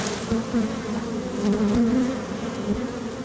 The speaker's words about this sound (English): So what I did was I just tapped the edge of the frame onto the other frame. And what it did basically was just shake the bees all free, and so now they're more flying.